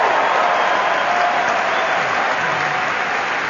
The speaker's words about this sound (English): Well, you know, I just heard that applause, and I don't get that when I get in my classroom. All right. Hey, let's make Ted, could we all applaud for Ted?